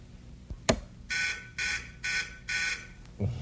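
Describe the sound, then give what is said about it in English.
An electric buzzer on a plugged-in machine sounds in four short, evenly spaced bursts, a harsh steady drone, preceded by a sharp click and followed by a faint knock. “See, just by those two little dots and the buzzer, you can see.”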